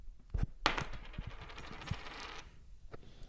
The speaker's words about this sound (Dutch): Nou ja, dan gaan we kop of munt. Hier komt ie.